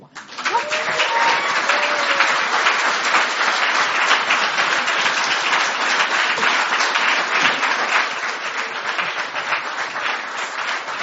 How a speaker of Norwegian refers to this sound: Så med applaus.